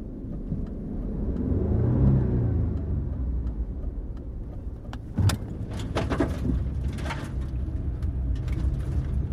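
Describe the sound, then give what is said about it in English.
A car engine rumbles steadily while driving, rising in a brief rev and easing back, followed by scattered clicks and rattles inside the vehicle; no one speaks. “Ferryman to all cars. We're going left here. Get off this road, pull up behind the convoy.”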